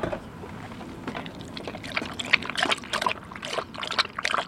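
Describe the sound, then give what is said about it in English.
Water pours and splashes in irregular gurgling bursts that grow busier toward the end, with a low background rumble and no voices. “Here's some water.”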